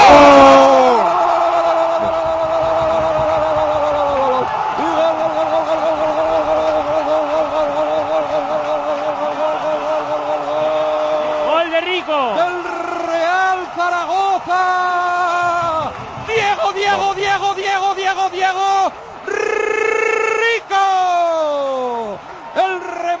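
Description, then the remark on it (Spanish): The crowd at La Romareda stadium roars steadily throughout, shouting "sí se puede" after Diego Rico's headed equalising goal in the 39th minute, nearly buried under a commentator's long, held, high-pitched shout that then breaks into rapid excited calling over the continuing din. “Cabeza de Diego Rico al fondo de la red y la Romareda que grita sí se puede. La Romareda es un clamor con el gol de cabeza de Diego Rico para empatar el partido en un momento muy oportuno, minuto 39”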